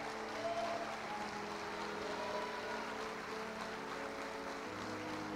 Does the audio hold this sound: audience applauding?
yes